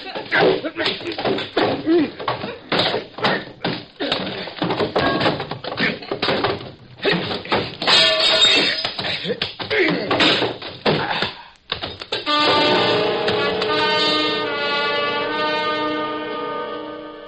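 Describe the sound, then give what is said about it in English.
A flurry of punches and scuffling, with dull thuds and thumps landing in quick, uneven bursts, and grunting voices amid the struggle, before a sustained musical sting takes over near the end. “I've never prided myself on being a world beater when it came to trading punches.”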